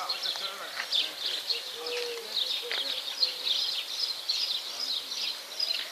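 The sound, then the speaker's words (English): A dense, busy chorus of birds chirps and twitters nonstop as the sun comes out, many high calls overlapping into a steady bright wash, with no pauses throughout. “Sun shows up, bird song frenzy.”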